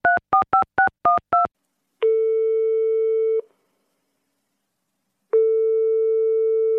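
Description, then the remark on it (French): Six quick touch-tone beeps as gendarmes dial a telephone number in Paris, then a steady ringing tone that sounds, pauses for a couple of seconds, and starts again. Clear, with no voices. “En fouillant dans le répertoire du docteur Roman, les gendarmes tombent sur un numéro de téléphone à Paris. Une femme. Alors ils appellent.”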